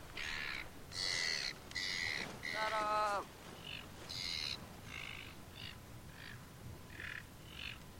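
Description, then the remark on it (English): A bird calls loudly and repeatedly, harsh cawing squawks in a steady series that fades and weakens toward the end, with no talking. “She had enough energy to tell the bird to shut up, but she can't, like, get adrenaline here and say hello.”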